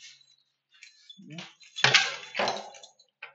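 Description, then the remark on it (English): A set of three keys jangling in a few bursts of bright metallic clinks and rattles, with two louder shakes in the middle and a light tinkle at the end. “We have 3 keys here.”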